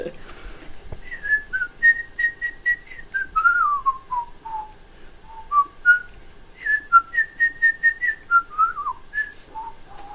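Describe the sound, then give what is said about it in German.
A person whistles the bird's melody, a tune played by the flute: clear, fairly loud tonal phrases of held and repeated notes that step up and slide down, played twice in similar sequence. “Nee, das ist der Vogel.”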